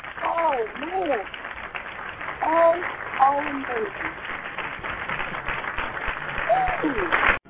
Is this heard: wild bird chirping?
no